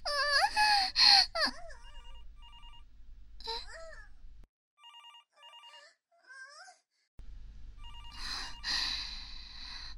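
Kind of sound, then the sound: signal or alarm, telephone ringing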